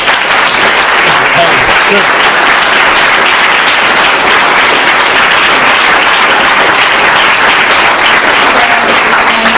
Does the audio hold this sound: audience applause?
yes